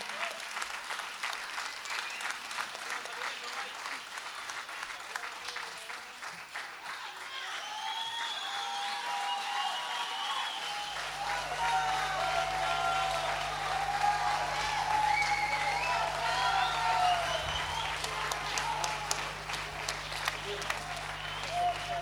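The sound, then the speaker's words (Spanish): An audience applauds steadily for about twenty seconds, a dense wash of many hands clapping that swells midway, with a few whistles and cheers rising over it and a low hum joining later. “Un aplauso, por favor.”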